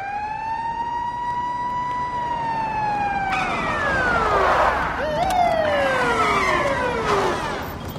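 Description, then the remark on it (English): Several police squad car sirens wail together with long rising and falling tones, overlapping and growing louder as the cars approach an apartment building, over a steady rumble of engines and traffic. “Several squad cars approach an apartment building.”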